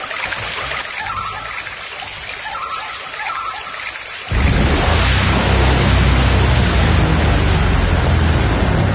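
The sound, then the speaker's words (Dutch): A small stream trickles and hisses steadily with no voices; about halfway through the flow suddenly sounds louder and fuller, with a deeper rushing underneath. “We een probleem met dat beekje.”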